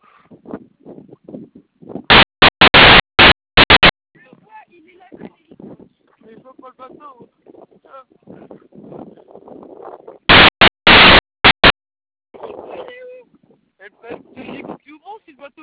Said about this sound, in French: Vous avez un hélicoptère ? Au-dessus de vous ? Au-dessus de nous ? Ouais, vous allez avoir un hélico dans le secteur, d'accord ? Vous allez l'entendre. Je l'entends ! Bah, il arrive, d'accord ? On a un hélico en plus qui arrive, d'accord ?